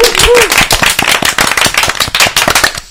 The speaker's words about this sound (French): Ok, et bah allez, on l'applaudit plus fort.